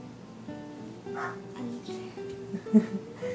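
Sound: dog barking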